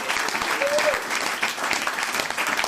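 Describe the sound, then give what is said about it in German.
A crowd applauds steadily, dense overlapping claps forming a continuous, fairly loud wash of sound that holds evenly throughout without a break. “Und genau deswegen geht der Applaus der Woche heute an die, die sich genau dessen bewusst sind und die auch daran arbeiten.”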